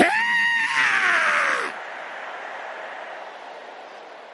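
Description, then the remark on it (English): A crowd of voices lets out a loud, drawn-out roar imitating a lion, lasting about a second and a half before breaking off into a fading echo. “Somebody roar like a lion.”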